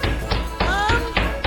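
A steady series of about six firm knocks on a door, evenly spaced and fairly loud, with a faint tonal ring briefly lingering between some of the raps.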